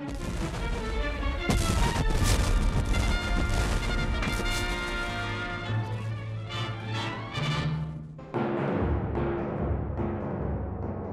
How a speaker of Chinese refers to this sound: 两艘战舰里面的水兵被噪声、热气和烟雾困扰，他们发射的火炮声音巨大，敌军火炮爆炸声更加是震耳欲聋，有些人耳膜被震破